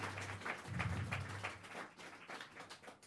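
A crowd applauds steadily for a few seconds, many hands clapping in a dense, irregular patter with a low hum underneath, moderately loud and with no voices.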